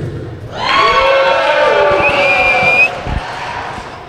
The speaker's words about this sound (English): That's where you cheer.